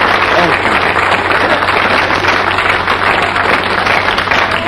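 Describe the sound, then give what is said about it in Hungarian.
An audience claps steadily and loudly for about five seconds, a dense crackling wash of many hands with no pauses, and a low hum sits underneath. “Na, na, ne tüntess, csak tapsolj.”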